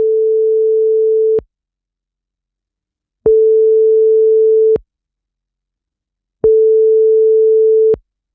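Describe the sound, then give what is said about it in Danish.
A steady single-pitched telephone ringback tone sounds three times while calling an HR director at DSB, each burst about a second and a half long with roughly two-second silences between, clear, with no voices. “Lad os give hende et kald.”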